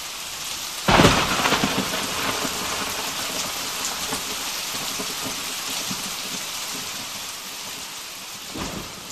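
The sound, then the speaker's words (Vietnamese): A thunderstorm with steady, heavy rain hissing throughout, broken by a loud thunderclap near the start that rumbles on, and a softer crack of thunder near the end. “Hôm nay thấy sấm giang chớp giật thì ai nấy đều quỳ cả xuống”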